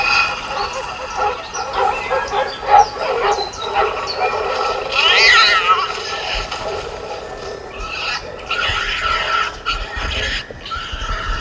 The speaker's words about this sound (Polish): Proszę sobie wyobrazić, że takie oto nawet przerażające odgłosy wszystkich zwierząt możliwych, bo tak jak Państwo słyszą, słyszymy tu również i zwierzęta gospodarskie, nie tylko tę dziką, leśną zwierzynę, wydające odgłosy przerażenia, strachu